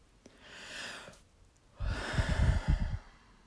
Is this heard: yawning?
yes